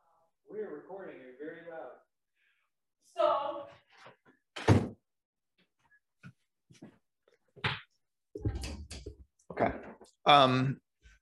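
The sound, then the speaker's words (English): A door is pushed shut with a solid thunk, followed by a few more knocks and bumps, while people talk between the impacts. “All right, hang on, I gotta shut this door.”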